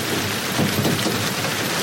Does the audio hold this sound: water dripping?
no